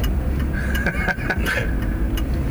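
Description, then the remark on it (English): A rental car's turn signal ticks in a steady, even rhythm, roughly twice a second, over the low rumble of an engine and road noise inside the vehicle while driving in two lanes of traffic. “Can we pick up the signal on the broadcast? Yeah, it's recording the signal.”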